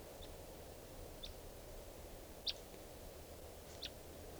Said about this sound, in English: We're recording at 3:10 p.m. and there's a wild bird here.